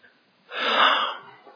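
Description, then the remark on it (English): One sharp, wheezy inhale from a man in a church rises and holds like a sneeze about to burst, then fades out without the sneeze ever arriving. It's fairly loud, with no talking around it. “When I get a good sneeze coming, you just can't get it.”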